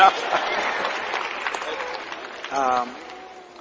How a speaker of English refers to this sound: Y'all was clapping a few minutes ago.